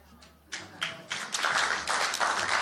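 An audience bursts into clapping that starts with a few scattered claps and quickly swells into steady, fairly loud applause that keeps going to the end.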